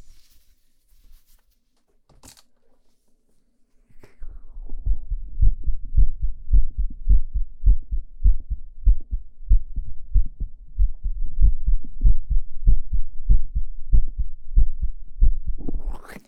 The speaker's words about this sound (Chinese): 上衣也撩起来。先听一下你的心跳啊。